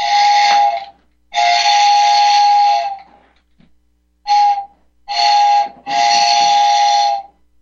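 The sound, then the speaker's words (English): A loud, shrill steam whistle from an HO-scale model train layout sounds in five blasts: two long toots, a short pause, then a quick short blast followed by two more long ones, with no talking. “I just had to take that off my son's HO train layout.”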